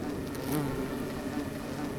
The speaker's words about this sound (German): Kann man es hören? Ja, hier hört man das Brummen der Hummeln an der Indianernessel, der Monade. Ich halte mal das Mikro rein.